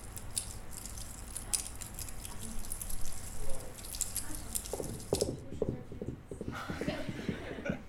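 Two or three pine cones crushed very slowly against each other, giving a dense, irregular crackling of small dry snaps and creaks that imitates a fireplace fire as silent-film sound effects, with sharper bursts toward the end.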